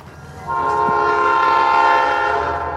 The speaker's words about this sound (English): But the tree the bear is in stands right next to the railroad tracks, and a passing train scares him and stops his downward progress.